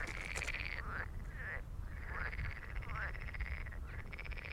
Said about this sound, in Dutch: Ja, prachtig, hè? Ik denk dat meteen een kikker, maar ik weet er niet zoveel van. Ja, ik denk het wel. Is toch een mooier geluid dan die baggermachines.